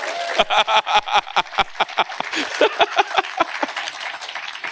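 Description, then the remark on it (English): A small audience breaks into applause for the speaker's children, a brisk, steady patter of crisp claps that carries on for several seconds at a fairly loud level, with no talking over it. “Like, well, here they come, like, you know, round of applause for my kids.”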